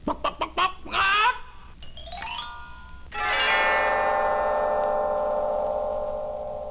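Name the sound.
hen clucking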